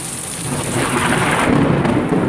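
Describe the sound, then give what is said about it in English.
Heavy rain from a cloudburst pours down outside a hall after a ball, a dense, steady hiss while a low rumble of thunder rolls underneath, loud and continuous with no voices. “After the ball, my partner and I emerged from the hall to discover a cloudburst. No one could venture out in such a deluge.”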